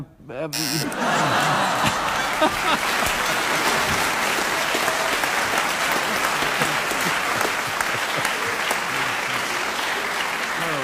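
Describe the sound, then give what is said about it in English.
Sustained, loud audience applause at a panel show after a contestant speaks for 49 seconds without interruption on racing snails, a dense wash of clapping that starts abruptly and holds steady throughout, with a few scattered chuckles mixed in near the start. “Peter, I think the audience applause tells you that such a bizarre subject, you achieve miracles with it.”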